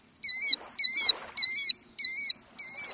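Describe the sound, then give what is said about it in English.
Five loud, shrill piping calls repeat at a steady pace, each a clear high note with a rising-falling wobble: the killdeer's insistent warning cry on a sandy beach, given when someone approaches too close, with no talking. “A family of killdeer might scamper along the sandy beach, and if you approach too close, they'll voice a warning.”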